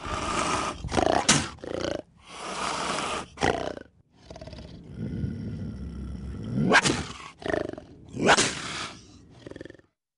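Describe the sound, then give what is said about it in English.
A Florida panther named Duke, about 130 pounds and 6 feet long, kept in a backyard, roars and growls in a series of loud, raspy bursts with short pauses between them, and no one speaks. “That's a Florida panther.”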